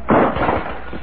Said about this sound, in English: Somebody kicked the table and the lamp crashed to the floor.